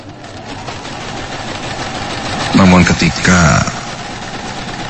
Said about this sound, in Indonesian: ku injak pedal mesin jahitku itu. Kok gak nyala sih? Terdengar bunyi dinamo mesin jahitku tidak mau maju.